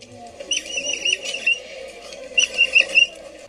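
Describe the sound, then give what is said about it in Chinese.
A baby capybara squeaking: thin, high-pitched chirpy squeaks in two short clusters separated by a brief pause, with a soft low hum underneath and no talking. “这是一只很可爱的小小的水豚宝宝在哼哼叫”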